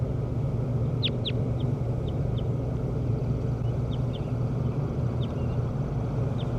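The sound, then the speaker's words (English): A numbered bird, bird 17, being recorded, calls in a series of short, high chirps: two sharper descending notes first, then fainter quick peeps at irregular intervals, all over a steady low rumbling background. “Start recording bird 17 again.”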